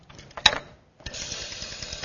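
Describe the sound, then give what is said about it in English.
The dial of an old corded rotary telephone turns as an area code is dialed: a sharp click, a brief pause, then a steady buzzing whir of rapid mechanical clicks as the dial spins back, with no talking. “If you wanted to call someone, you didn't just touch their picture. You had to dial, the area code.”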